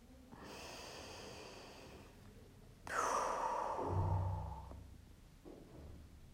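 A long, deep breath drawn in through the nose, airy, followed by a slower, softer exhale that fades out, then a faint second breath near the end.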